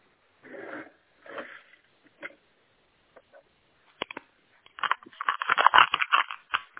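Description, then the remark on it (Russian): A pen scratches across paper as a phone number is written down, first in a few short separate strokes, then a couple of light taps, then a quicker, denser flurry of scribbling before it stops. “А теперь, пожалуйста, записывайте себе куда-нибудь. Сейчас, ручку запишу.”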